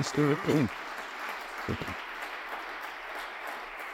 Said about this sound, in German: Es ist seine Deliktpremiere und deswegen darf ich noch einmal bitte um einen großen Applaus bitten. Danke.